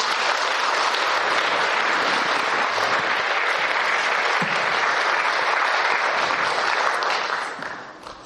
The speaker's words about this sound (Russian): Пожалуйста, выходите на сцену. Вот, вот, вот. Аплодисменты, пожалуйста.